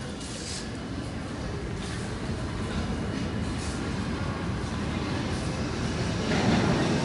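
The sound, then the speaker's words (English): A New York subway train rumbles steadily with a dense, roaring low-end clatter that swells a little louder toward the end. No voices, just the continuous mechanical din of the moving train. “That's what you're hearing in the New York subway.”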